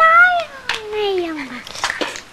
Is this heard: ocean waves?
no